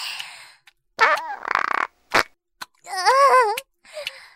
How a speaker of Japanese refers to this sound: セックスしながらおならしちゃった。ほら、嗅いで。私のおならの匂い、嗅いで。もっともっとおならするから。もっともっと嗅いで。